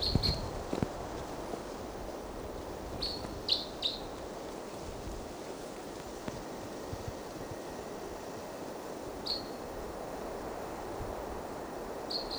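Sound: wild bird chirping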